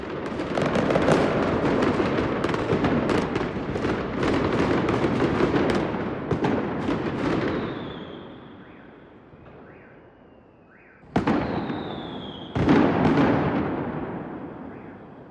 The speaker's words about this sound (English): Chinese New Year, the most popular firework is the 88 money-making tree, which looks like old Chinese coins raining from the sky.